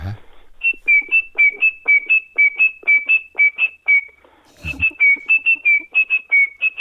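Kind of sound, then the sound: bird, tit song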